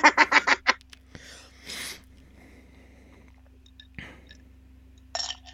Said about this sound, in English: Oh, sorry, my mouth is so dry. Ice. I just chewed the ice all hard. I'm sorry.